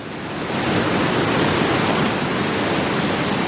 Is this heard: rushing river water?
yes